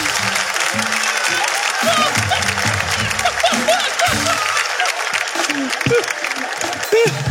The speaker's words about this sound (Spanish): Un aplauso para ellos, un aplauso.